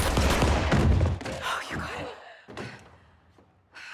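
Gunshots fired through a wall to the right of a door: a loud, noisy burst of rapid blasts at the start, then a quieter gap broken by two more sharp, harsh cracks.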